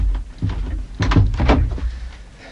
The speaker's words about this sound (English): Well, come on, open the door.